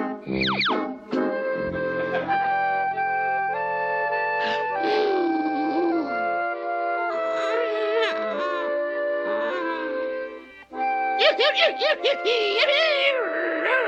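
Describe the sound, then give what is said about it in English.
A dog howls and whines in long, wavering tones that rise and fall in pitch, loud and nearly unbroken, ending in a flurry of sharper, quivering yelps. “Knock it off, you mutt!”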